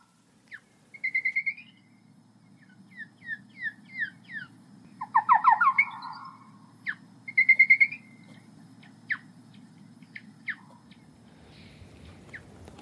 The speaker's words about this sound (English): This audible clicking you can hear is the sound of the acoustic lure which is set up at this harp trap, but if we slow it down by 10 times, this is what it sounds like.